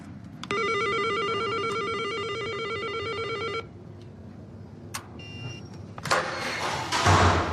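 An apartment-entrance doorbell sounds a single sustained electronic buzz for about three seconds, then stops, followed by a few clicks and rustling over a low rumble of outdoor traffic.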